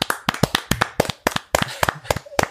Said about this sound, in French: Et je pense que ça mérite un tonnerre d'applaudissements. Allez les gars, 3, 2, 1, petit tonnerre d'applaudissements.